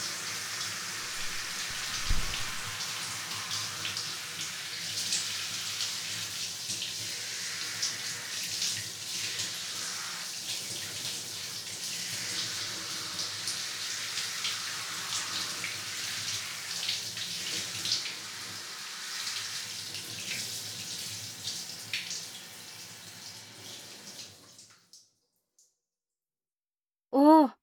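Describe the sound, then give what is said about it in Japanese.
Warm water is poured steadily over a person's hair during a hair wash for about twenty-five seconds, a continuous splashing hiss with soft shifting patter, then it cuts off into near silence before a brief sharp sound at the end. “お湯かけたら一気にボリューム減ったね。”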